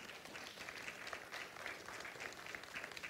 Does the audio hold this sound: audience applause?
yes